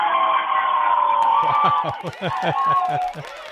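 A crowd of about forty people yelling together in one loud, sustained roar that breaks into choppy, uneven bursts toward the end.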